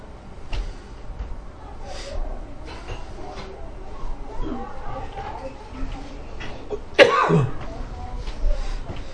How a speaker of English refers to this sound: You cough like I do.